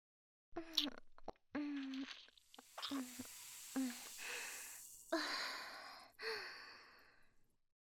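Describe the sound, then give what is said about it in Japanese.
Intimate sounds of someone drinking the last of a fizzy juice mouth-to-mouth, without a straw: wet lip and swallowing noises with a faint hiss, broken by short voiced gasps and soft sighs, no words spoken. “私の口移しで飲ましてあげるね。”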